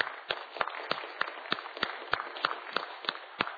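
An audience applauding, a steady wash of many hands with sharper individual claps popping out at a brisk, fairly even pace, moderately loud with no voices over it.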